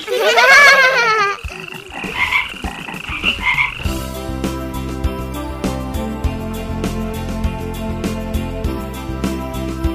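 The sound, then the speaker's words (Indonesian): A frog croaks loudly, a few short rasping calls near the start, after which steady background music takes over for the rest. “Sobat pintar, katak disebut binatang amfibi.”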